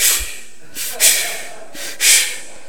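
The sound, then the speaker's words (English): A voice imitates the heavy, panicked breathing of a scared passenger on a plane before takeoff: two or three loud, airy huffs in quick succession, each a sharp breathy rush with brief pauses between. “This dude, I'm hearing heavy breathing.”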